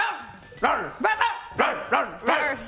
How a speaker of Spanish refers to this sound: No, ladren, ladren.